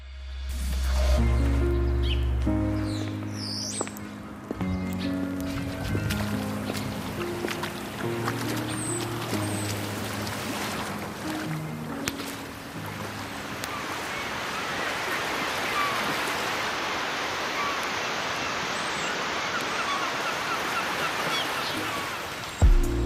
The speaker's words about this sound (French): Le clapotis des vagues et les mouettes. C'est zen, on se croirait dans un film de je sais pas qui.